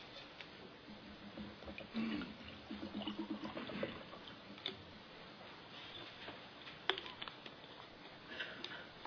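Water pours into a glass for a couple of seconds with a gurgling, rising tone, quiet. Soft background noise and a few faint clicks follow, and no one talks.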